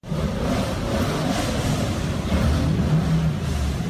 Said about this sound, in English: Main Street in Christiansburg, Virginia was shut down so 70 rally cars could line up and take off one by one on the first day of the event.